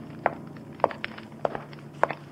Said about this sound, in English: And I also heard the echo of footsteps on the old stone floor. But I saw no one, only felt and heard but didn't see.